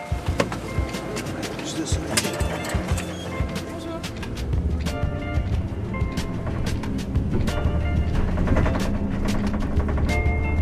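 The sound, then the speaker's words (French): A bus on the 3000 line from Bourg-d'Oisans to Grenoble idles with a steady low rumble while passengers climb aboard, scattered clacks and thumps sounding throughout and voices murmuring in the background. “On est rentré dans le bus.”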